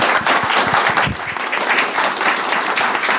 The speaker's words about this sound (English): That's definitely on the shortlist. Can we give a huge round of applause? Thank you very much.